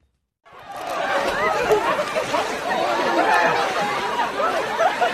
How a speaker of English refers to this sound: Cries of glee as an impromptu snowball fight breaks out in Washington, D.C. after a massive winter storm swept across large parts of the United States on Sunday, bringing heavy snow, ice and freezing temperatures to southern and eastern states.